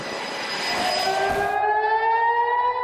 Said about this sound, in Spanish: En la madrugada del jueves 20 de marzo, las sirenas de Jerusalén se activaron cuando un misil fue lanzado por los hutíes contra Israel.